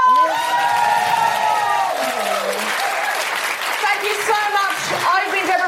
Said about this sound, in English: A huge round of applause for my incredible co-pilot,